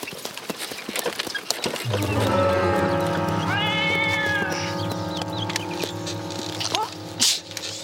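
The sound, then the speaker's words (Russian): A black cat lets out a long, drawn-out meow that wavers up and down in pitch, fairly loud, over a busy background with some clopping, hoof-like knocks. “Нам черная кошка все путя перетихла.”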